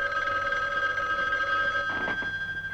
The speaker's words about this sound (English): And then the phone rings, and it's Ralph.